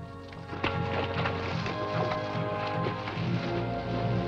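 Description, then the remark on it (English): A horse's hooves plod steadily and splash through shallow water as its rider steers it into a river, the clopping blending with a continuous wash of sound and a faint tonal background throughout, with no one speaking. “steers his horse away and into the river.”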